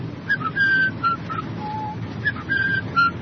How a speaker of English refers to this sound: How shall I know? I'll whistle this tune.